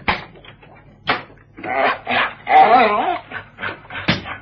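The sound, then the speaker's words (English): An excited young dog, Zara, whimpers at a door wanting to come in, short eager whines and yips rising into a wavering, high-pitched whine, broken by a few sharp thumps or scrabbles. “Sit down, Zara, and behave yourself.”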